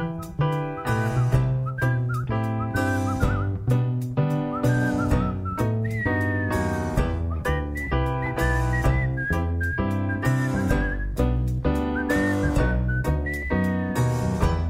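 A whistled melody glides and wavers in the upper register over a full, rhythmic band accompaniment, carrying the tune steadily for the whole stretch without any voices.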